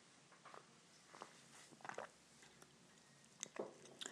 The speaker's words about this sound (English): Now, with the milk, let me just take another sip, because it's very difficult once you've had the need to immediately get the palate to adjust to something which with a bit of milk. So let's just take another sip.